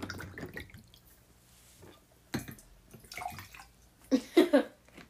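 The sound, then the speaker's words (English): A drink pours from a one-liter bottle into a big glass, with a bubbling, splashing flow and a few louder glugging bursts toward the end, and faint voices murmuring at the start. “Oh, pour me a big glass. I'll drink it.”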